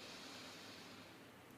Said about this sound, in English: breathing in nice and deep